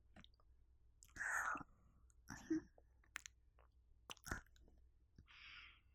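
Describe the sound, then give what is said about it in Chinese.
Soft wet mouth sounds: a few short bursts of biting and nibbling with sharp clicks and smacks between quiet pauses, and a faint breathy hiss toward the end. “我不管，之前我什么都让着你，现在你都要听我的，让我好好的咬一口。”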